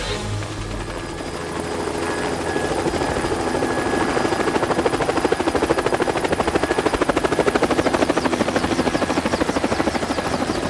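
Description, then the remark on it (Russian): A Mi-8 helicopter flying on one engine circles and slowly climbs out of a gorge at about half a metre per second, its rotor beating in a fast, even chop with a whining turbine tone, the sound holding loud and constant throughout with no voices. “Вертолет начинает кружить и еле-еле по полметра в секунду начинает набирать высоту.”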